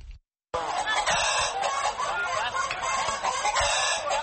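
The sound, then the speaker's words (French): A dense, busy chorus of many chickens clucking and squawking together, continuous and fairly loud, at a poultry market in Bafoussam. “Au marché de Bafoussam, l'association des vendeurs de poulets affirme qu'au moins 1300 volailles ont été envoyées dans les villes du pays mardi, malgré une épidémie de grippe aviaire.”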